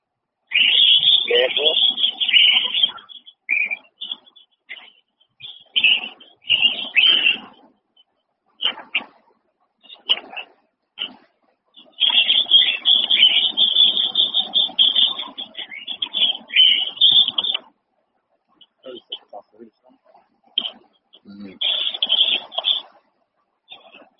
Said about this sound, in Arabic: العصافير ده عندك ولا في الشارع يا دكتور؟ نعم العصافير ده عندك ولا في الشارع؟